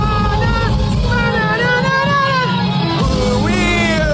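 A concert crowd sings along loudly, many voices blending into a ragged chorus over a booming band, continuous and dense from start to finish.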